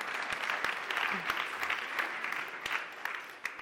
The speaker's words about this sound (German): Sehr gut. Ein Applaus.